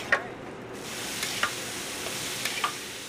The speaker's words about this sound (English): The burgers sizzle while Michael scoops the meat juices back onto the three that are cooking.